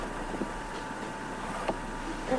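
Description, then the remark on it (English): A man urinates into a toilet bowl: a steady, hissing stream of liquid pours in, continuous and even throughout, with no voices. “I can hear him peeing. Got a strong scream. Probably writing his name in the porcelain.”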